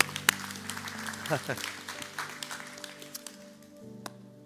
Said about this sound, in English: Jesus, we are applauding you, for you are the glorious one.